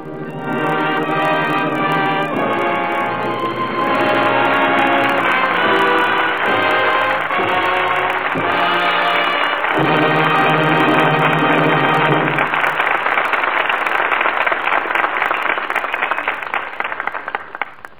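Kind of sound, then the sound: crowd, studio audience applause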